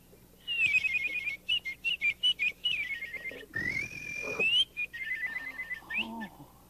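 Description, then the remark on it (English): A man whistles a lively imitation of the song of a make-believe bird, with rapid warbling trills, quick repeated chirps and a long rising glide, loud with no talking. “Would you like to hear me whistle like a bird?”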